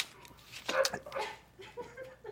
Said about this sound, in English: Oh, that was a big sip.